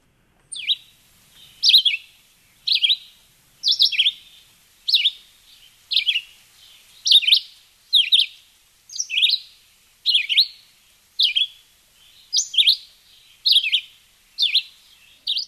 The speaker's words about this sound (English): And Bill or Noel, now I'm not remembering which one of you wanted us to play a red-eyed vireo. Also, I think Bill did. All right, Bill. Well, here it is.